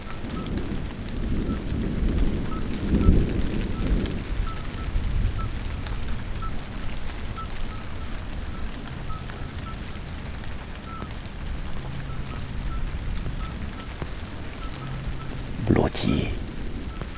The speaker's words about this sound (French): voici la Lozère, étang de Barandon, 1100 mètres d'altitude. Vous écoutez la fin d'un orage.